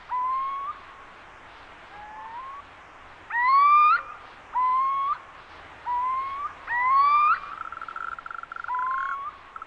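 Several male little owls give repeated rising, mewing calls from rocky outcrops, overlapping one another, while a steady trilling chorus hums in the background throughout.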